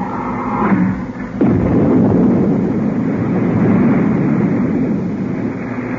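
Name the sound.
retro rockets firing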